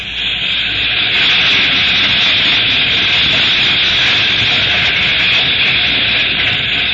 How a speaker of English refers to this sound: There's the headlight. She's moving slow. I say this ought to do it. Yes, keep out of the headlight. We don't want the train crew to see us. Let the engine get by and then start looking for an open boxcar. Here she comes.